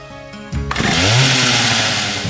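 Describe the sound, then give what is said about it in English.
A chainsaw snarls to life and revs up loudly, its engine rising into a sustained, raspy whine that fills the short clip with no voices present. “Because he puts a dead pig head on at the end of the film and is running around with a chainsaw.”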